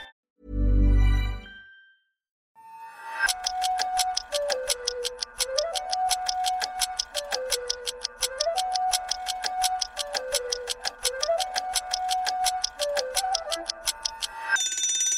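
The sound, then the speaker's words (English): A brief low thud, then a timer clock ticks steadily and rapidly for about twelve seconds, loud and close, over a repeating melodic tune, with no voices. “Minutes on the timer, and the subject is Donald Trump is done.”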